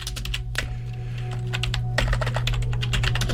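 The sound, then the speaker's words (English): Rapid, irregular clicking of keys being typed on a computer keyboard, clear, with bursts of keystrokes over a steady low electrical hum and no one speaking. “That is, this keyboard here does not work for my piano fingers.”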